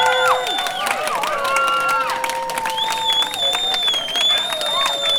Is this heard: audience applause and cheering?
yes